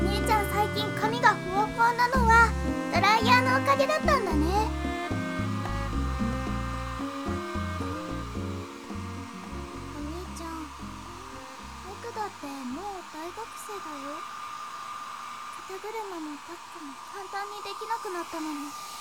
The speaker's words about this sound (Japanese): あ、お兄ちゃんの高いドライヤーだ。やっぱり就職したらちょっぴり奮発できちゃうもんね。